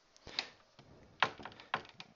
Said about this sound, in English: Okay, tapping with the cupboard and just tapping the wall. So I don't know how those noises will pick up, but at any rate, that's that.